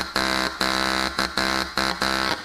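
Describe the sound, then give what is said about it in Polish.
A pierdziawka, a Polish folk pipe made from the stem of knotweed (rdest, called Polish bamboo), plays a loud, buzzy, low drone in six bursts of uneven length with short gaps between them. The pitch stays steady and no one speaks. “A pierdziawka gra tak.”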